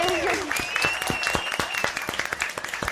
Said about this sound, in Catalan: Un aplaudiment per aquests creadors de joc i pels nostres dimonis.